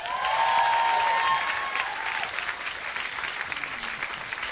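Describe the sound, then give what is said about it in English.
A crowd at an evening show applauds a performer steadily, many hands clapping in a dense wash that starts strong and gradually eases off, with a faint whistle or cheer near the start. “Big round of applause”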